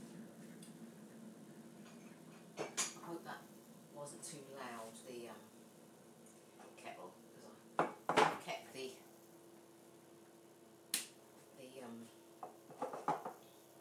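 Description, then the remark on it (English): A kettle is shifted away from the cooker with metallic clunks and scrapes, a few sharp knocks spaced out over several seconds, and a voice murmuring faintly in between. “The kettle away from it. Let's move it away from the cooker.”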